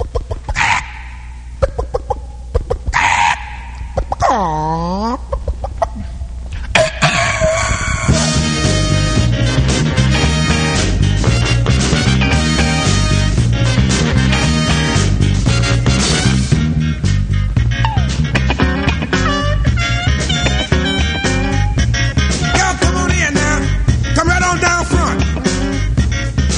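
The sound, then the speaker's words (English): A funk soul record on the Stax label opens with squawking, clucking chicken-like sounds, then kicks into a loud, steady band groove with punchy bass, drums and brassy stabs. “I'm going to play a bit of a curiosity now. One from the legendary Stax record label.”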